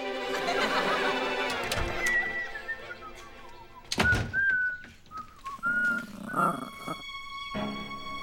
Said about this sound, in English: I was in the yard, whistling, happy.